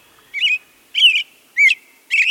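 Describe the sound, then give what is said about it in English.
An American robin sings in the evening from a high vantage point, four clear, liquid phrases at an even pace, each a bright warbling burst with short pauses between, loud and alone with no voices. “You hear that American robin?”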